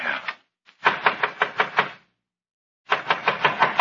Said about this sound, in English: Someone's trying the outside door.